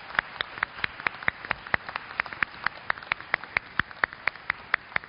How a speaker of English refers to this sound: Let's give a round of applause for Emmett, our newest brother in the faith.